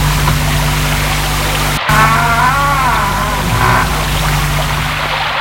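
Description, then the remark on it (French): A church's side door creaks open with a drawn-out, wavering squeal lasting about a second, heard over a steady, loud rushing hiss of rain. “Le grincement de la porte de côté.”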